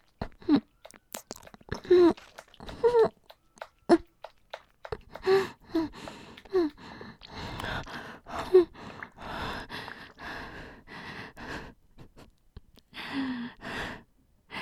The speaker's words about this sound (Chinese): 学的挺快的嘛，现在喘气不是很自如。